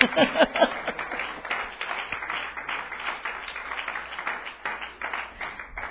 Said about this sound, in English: Let's clap our hands to the Lord.